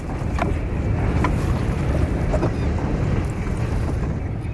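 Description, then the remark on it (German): A rowing boat, rowed by an Indian man of about 40, moves across river water downstream of Wazirabad, India, with a steady rushing wash of water and wind and a few faint knocks and splashes at intervals. No one speaks. “nimmt uns Sonu, ein etwa 40-jähriger Inder, ein Stück mit seinem Ruderboot mit”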